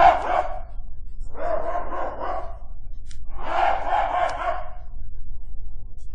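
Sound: hunting dog barking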